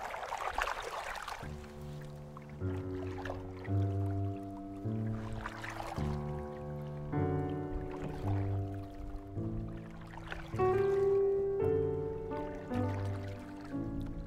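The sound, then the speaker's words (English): Oars dip and splash in a slow, steady rhythm, roughly every two or three seconds, as a rowboat glides across a calm lake in sunlight, with soft sustained musical chords playing underneath. “A rowboat on the lake.”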